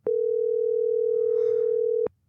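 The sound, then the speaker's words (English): A single steady telephone ringback tone of an outgoing phone call hums for about two seconds, clear, then cuts off abruptly, leaving a hushed line with faint background noise. “Maybe we could call him on the phone right here. Okay, it's ringing.”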